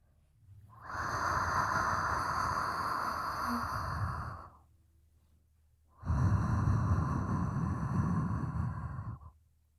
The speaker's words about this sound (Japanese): 熱い吐息、感じますか？もっと私を感じてください。